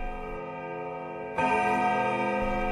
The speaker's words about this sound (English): The clock has just struck 13. It often strikes the wrong hour, but they've always been real hours.